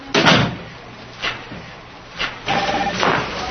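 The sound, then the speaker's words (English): A door bangs loudly near the start, followed by a couple of softer knocks and a longer rattling, squeaky stretch as it moves again, with no talking. “Close that door.”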